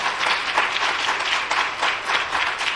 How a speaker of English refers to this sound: Give Jesus one more hand clap for praise. Hallelujah.